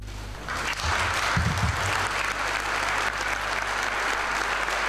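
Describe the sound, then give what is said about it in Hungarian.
Sustained applause from the 32-member Budapest city assembly greeting Lord Mayor István Tarlós after his swearing-in, a dense steady patter of many hands clapping at once, continuing evenly for the whole stretch with no voices standing out. “Tapssal köszöntötte a 32 tagú fővárosi közgyűlés Tarlós István, akinek az eskütételét követően elsőként Orbán Viktor gratulált.”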